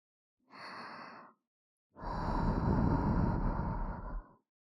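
Two soft, airy breaths blown into the ear: a short puff, a pause, then a longer, steady exhale with a faint whistling hiss, alone and with no talking.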